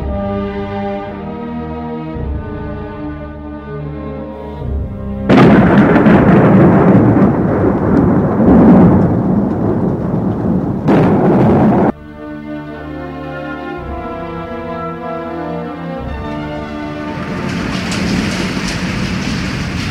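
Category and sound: nature, thunder and heavy rain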